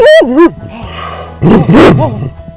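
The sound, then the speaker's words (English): A dog, Ranger, barks loudly, a couple of quick yelping barks followed by a short pause and then another burst of drawn-out, slightly howling barks. “We want you to take care of yourself and your pets. Ranger?”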